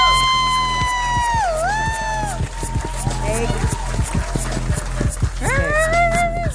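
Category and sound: crowd, audience applause and cheering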